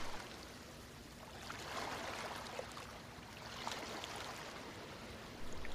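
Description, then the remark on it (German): Steady, rushing water noise from a rough, churned-up sea fills the whole recording, swelling twice in broad surges like waves churning against a beach, continuous with no voices. “Hinter ihnen rauscht das aufgewühlte Meer.”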